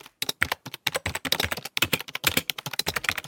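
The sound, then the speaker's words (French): Rapid, uneven clicking of fingers typing on a computer keyboard, fairly loud, with many quick keystrokes in irregular bursts and no voices. “Eh oui, c'est le son de quelqu'un qui tape sur un clavier d'ordinateur.”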